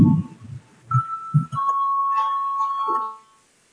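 parliamentary voting bell ringing

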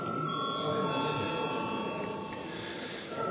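parliament voting bell ringing

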